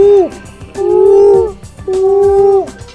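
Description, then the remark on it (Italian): A human voice does an owl impression: three long, steady hoots, each one sliding down in pitch at the end, evenly spaced. “Il rumore del gufo come fa?”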